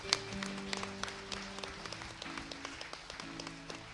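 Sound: audience clapping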